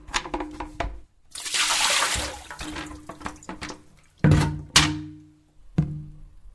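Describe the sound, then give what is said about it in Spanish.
Water splashes out in a brief rushing pour as a container that collects water is tipped over to prevent dengue, followed by several hollow thunks of containers knocked or set down, fairly loud, with no talking. “Dando vuelta a todo lo que junta agua, no hay dengue.”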